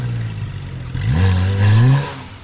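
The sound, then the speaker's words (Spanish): A car engine in a paddock revs up with a throaty, open-exhaust roar, rising in pitch around the midpoint and holding before easing off, loud with no talking. “porque necesita estar abierto el escape. Uy, a ver. Uy, escucha ese rugidito.”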